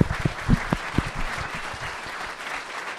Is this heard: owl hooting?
no